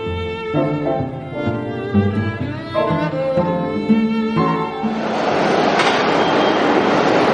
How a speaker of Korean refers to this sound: 9.11 테러 17주년을 며칠 앞둔 지난 9월 8일 WTC 코틀랜드 역으로 첫 번째 열차가 들어옵니다.